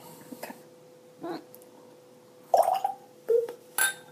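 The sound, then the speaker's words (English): A glass clinks sharply near the end in a toast, ringing briefly after a few short whiny, squeaky sounds and soft rustles over a faint steady hum. “I just cheers to myself.”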